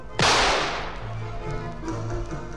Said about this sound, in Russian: А ну-ка я сейчас как бабахну в черти из ружьишка.